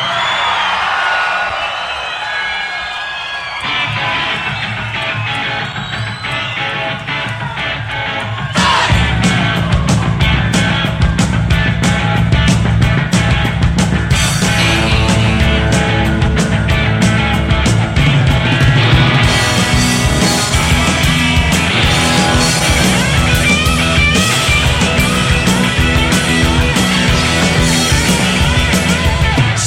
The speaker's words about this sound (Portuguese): Rock do Brasil, aqui é rock nacional.